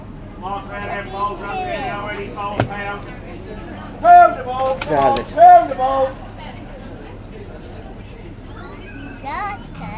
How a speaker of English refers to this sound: Pigeons. I know they're pigeons, but they're vermin.